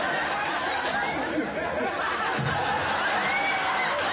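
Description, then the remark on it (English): Steady studio audience applause fills the whole stretch, a dense wash of clapping with a faint murmur of the crowd mixed in, holding at an even level without pauses. “Did you hear that applause just then?”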